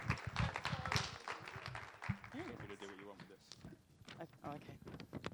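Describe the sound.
A crowd applauds steadily as a speaker is introduced to come up and tell her story. Dense, irregular clapping fills the whole stretch while a few voices call out and talk over it.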